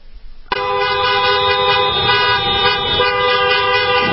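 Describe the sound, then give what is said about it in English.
After a brief quiet moment, a loud chorus of car horns erupts at a street protest in Michigan, from a line of cars too long to see the end. The horns keep blaring without pause, several overlapping honks merging into one sustained, clamorous drone. “So many cars, you couldn't see the end of the line.”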